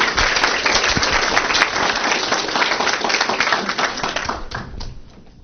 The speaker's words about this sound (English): And keeping in mind that fear of speaking in front of groups is the number one phobia in this country, let's give him a little round of applause as he comes up.